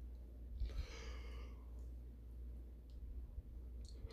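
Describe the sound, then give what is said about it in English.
A single drawn-out yawn from a man recording late at night, around 1:50 in the morning, rising and trailing off in about a second, followed by quiet hum with a couple of faint breaths. “Man, listen, man, your boy yawning.”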